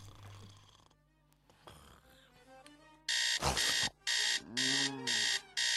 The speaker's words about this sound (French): Qui est-ce qui a branché ce réveil de merde ?